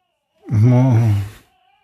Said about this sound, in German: Nee, ich geh schon. Das Kind weint wieder, wir müssen nochmal.